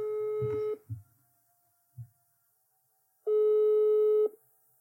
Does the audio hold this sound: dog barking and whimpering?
no